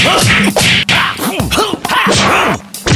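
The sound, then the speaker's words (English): A rapid flurry of cartoonish fight hits: sharp bejeweled slaps, thwacks and whooshing platform-shoe kicks landing one after another, loud, with no talking over them. “We see a flurry of platform shoe kicks and bejeweled pimp slaps, but it's not enough.”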